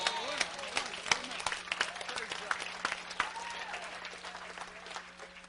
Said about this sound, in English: Give God a big clap offering right there. Praise God.